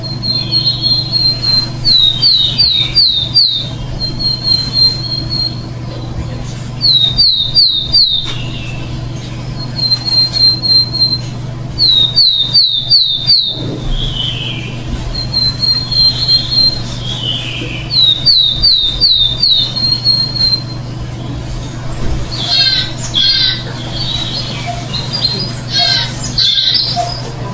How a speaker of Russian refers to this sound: И в заключение давайте послушаем пение птички.